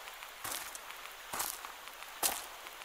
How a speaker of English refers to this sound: Oh, I love the sound of rustling leaves in the autumn.